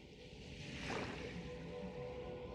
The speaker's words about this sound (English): With ASMR with the water sounds.